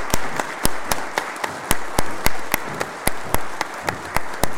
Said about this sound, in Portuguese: Cerimonial pede uma salva de palmas para os atiradores do tiro de guerra 02078.